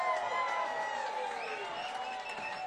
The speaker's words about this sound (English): Tonight's been a really rough night at the Jazz Cafe for the staff, so give the staff a big round of applause. They did a great job.